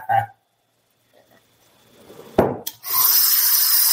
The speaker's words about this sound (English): Let me have a sip of coffee real quick.